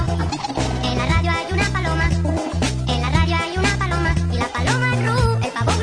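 A bouncy children's novelty song plays loud and steady, its bright synth melody mixed with cartoonish poultry calls like gobbling and clucking, with no one talking over it.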